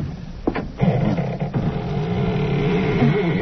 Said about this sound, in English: Doesn't sound as though that door had ever been opened. Well, a little oil on the hinges will fix that, all right.